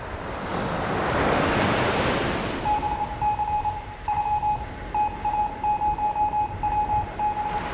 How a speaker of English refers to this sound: And then, out of the mist and heaving waves, a voice.